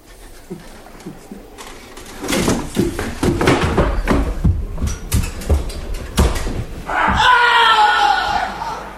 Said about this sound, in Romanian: Ce s-a întâmplat? Cine a țipat?